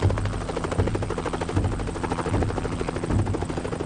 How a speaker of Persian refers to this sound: هلیکوپترها تو محوطه کاخ نشستن. شاه و فرح هر کدوم سوار یه هلیکوپتر شدن.